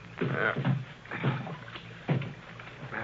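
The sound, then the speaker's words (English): Rhythmic paddle strokes dip and splash through water as a boat is paddled toward shore, three or four swishing pulls spaced about a second apart, moderately loud with no talking. “You want me to paddle? All right.”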